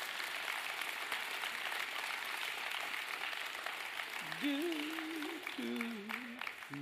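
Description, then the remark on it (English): A church audience claps in a steady, dense round of applause as the youth and kids' church are dismissed, filling the whole clip at an even volume, while a voice calls out over the clapping toward the end. “So it's an honor to be able to dismiss out the back end youth as well as kids' church with a big round of applause.”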